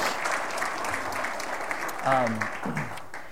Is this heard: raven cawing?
no